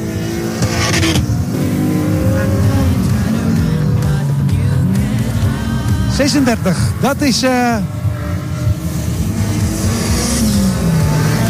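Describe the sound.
Loud, steady roar of race car engines on a track during a race, with revving, rising and falling engine pitches as cars pass midway. A voice talks over the engine noise.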